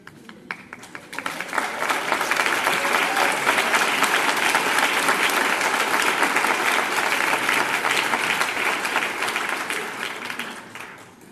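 Sustained audience applause, many hands clapping in a dense, even roar that swells quickly, holds steady for several seconds, then gradually tapers off toward the end.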